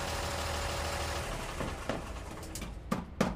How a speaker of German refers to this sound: Vor Bobos Haus ist ein Lastwagen vorgefahren.